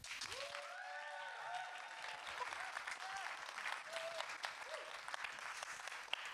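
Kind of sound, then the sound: crowd, audience clapping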